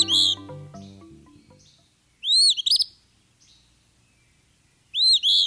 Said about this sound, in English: This brisk whistle belongs to a bird named for its song, the Eastern Phoebe. It repeats its name each time it sings, so it's a pretty straightforward voice to identify and remember.